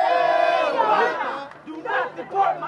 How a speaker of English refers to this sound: They carried signs and a giant American flag with chants alternating between English and Spanish. Their message? President Obama needs to follow through on his promise to take unilateral action on immigration before the end of the year.